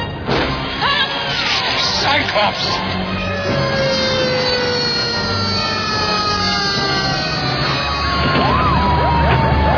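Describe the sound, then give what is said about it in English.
Fire truck sirens wail loudly with slowly falling tones as the trucks pull in at a lab and slow, heavy engines rumbling underneath and a brief clatter early on, with faint voices in the background. “Fire trucks are coming in and slowing down.”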